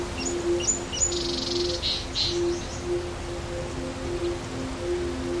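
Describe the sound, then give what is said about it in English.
Birds sing in short, high chirps and trills, some overlapping, over a steady wash of hissing background noise like flowing water, in a secluded area of Mpumalanga, South Africa, with no voices present. “You'd expect to hear birds, maybe the sound of a steady flowing river, and a breeze rustling the leaves of a bush willow growing along its banks.”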